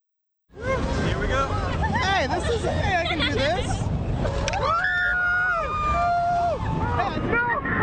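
Crowds screaming on midway rides at the Indiana State Fair: many overlapping high, wavering shrieks and long rising and falling wails over a steady rumble of machinery and crowd noise, loud throughout.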